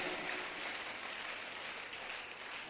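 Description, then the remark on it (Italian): A crowd claps steadily together after a prayer, a dense, continuous wash of many hands applauding at an even level for a few seconds, with no voices standing out. “Ti preghiamo di guidarci, oh Signore Dio, e di benedirci ancora in questo giorno nel nome di Gesù Cristo, che applaudiamo benedetti in eterno. Amen, alleluia.”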